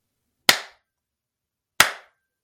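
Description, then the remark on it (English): Two sharp hand claps, spaced more than a second apart, each crisp with a brief ringing decay, surrounded by silence. “Clap one time for each of you."”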